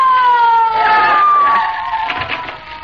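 A police squad car siren wails loudly, a single steady tone gliding slowly downward in pitch, then easing off slightly toward the end, with no voices.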